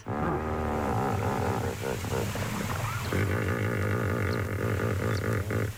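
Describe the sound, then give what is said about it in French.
Hippopotamus grunting calls: loud, deep, rumbling bursts with a sputtering, engine-like quality, repeating in a rough rhythm, with no talking. The hippos grunt to communicate with one another. “Et alors, si vous venez d'arriver, le bruit d'un hippopotame, ça fait ça comme bruit.”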